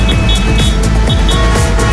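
Steady road traffic rumbles through, with cars passing close by in a continuous low engine drone and occasional swells as vehicles go past. No one speaks.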